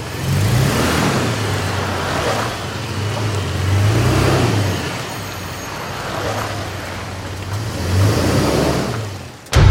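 A car engine hums and revs up and down continuously as the vehicle drives along, loud and close, ending with a sudden sharp thump. No one speaks.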